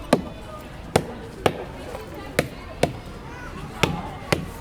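A hammer knocks on tree trunks, sharp wooden blows landing in uneven pairs, about eight strikes in all over a low background murmur.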